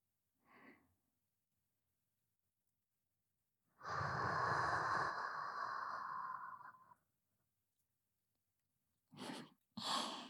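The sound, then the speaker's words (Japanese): Close, breathy exhalations right at the microphone: a soft puff, then a long, loud sighing breath lasting a few seconds, followed after a pause by two quick breaths, with no talking. “私の吐息感じる？”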